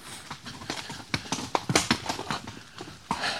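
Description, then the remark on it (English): Horse hooves clip-clop irregularly over hard, slippery ground, a series of sharp knocks and scrapes with uneven spacing as the animal steps carefully. “It is slippy up here. Come on, easy. Easy, boy. Nice and slow.”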